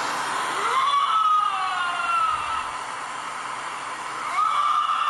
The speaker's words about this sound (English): I know we were talking about the crazy sound of a lynx, and this is a Canada lynx, so I think I found it here.